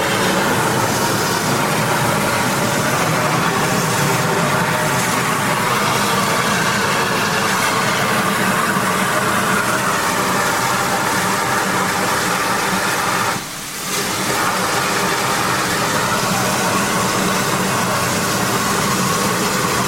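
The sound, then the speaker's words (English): Two Victorian steam locomotives departing, a loud, steady wall of hissing steam and low mechanical rumble that barely lets up, with one brief dip partway through. No voices. “And the spectacle of these two Victorian locomotives leaving about to be enjoyed.”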